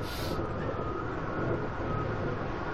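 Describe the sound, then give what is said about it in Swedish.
Windmill millstones grind grain into flour, the grain poured into a funnel and running down a chute to the stones, in a dense, unbroken rumble, heavy and coarse in the low end with a faint whine above, holding a steady loudness throughout with no voices. “Ljudet av säd som blir till mjöl.”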